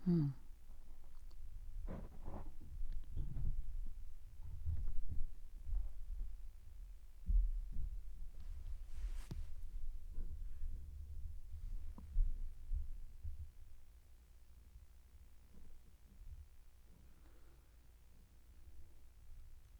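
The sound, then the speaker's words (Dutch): Low, rumbling thuds and rolling noises from children wheeling chairs around upstairs, with irregular bumps and knocks, loudest in the first half and fading toward the end. “Sorry, maar ze waren met de stoelen aan het rijden en dat hoor je.”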